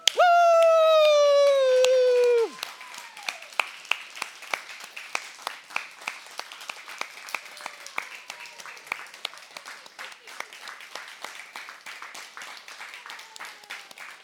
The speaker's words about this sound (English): I know what all you guys want to do. You want to stand up and clap and praise the Lord. Let's do it.